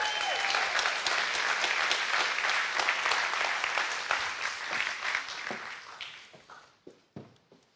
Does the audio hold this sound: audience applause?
yes